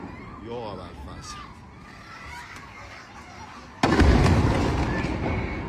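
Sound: explosions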